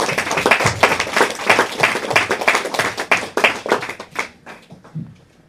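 A church audience applauds for the Lord, a dense burst of many hands clapping that stays steady for several seconds before thinning out and fading away near the end.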